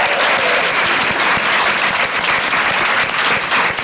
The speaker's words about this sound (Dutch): geef hem nog één groot applaus.